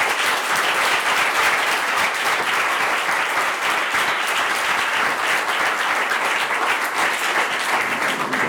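Steady, dense applause from a sizable audience, many hands clapping at once in a sustained, even wash of sound that holds strong throughout without pause.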